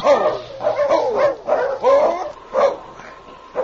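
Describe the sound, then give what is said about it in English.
A big fighting dog named Killer barks and whines inside a crate in a steady run of short, pitched yelps, fairly loud, with brief gaps between bursts and no one talking. “approached with a sled and dog team to carry the crate and the fighting dog to the scene of the battle.”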